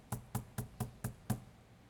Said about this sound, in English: I picture myself there in a dark house, in a dark room, Joseph and Mary and Jesus, this young child, still a baby, and to hear a pounding at the door.